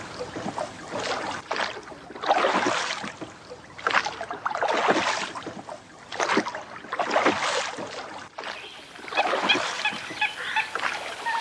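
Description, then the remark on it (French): A ship's longboat is lowered to the sea and rowed by sailors carrying barrels to fetch fresh water from an island, with repeated oar strokes splashing in a steady rhythm, fairly loud, and water sloshing against the hull between strokes. “Beltrame, Pierrick, Corentin, prenez chacun un tonneau et descendez une chaloupe à la mer.”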